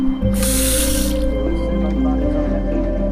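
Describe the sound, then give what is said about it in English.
Water drips steadily from a leaking tap in a quick, repeating pattern, preceded by a short burst of hissing spray, all over a constant low background hum. “Or fixing a leaking tap as soon as you notice it.”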